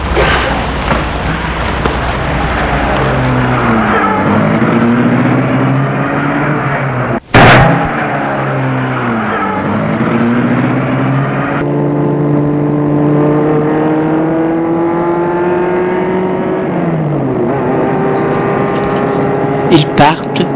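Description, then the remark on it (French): A car engine rumbles and revs, its pitch rising and falling as the car pulls away at 9 in the morning, with a single sharp thud partway through and steady engine noise continuing to the end. “Et ils sont rentrés dans leur voiture.”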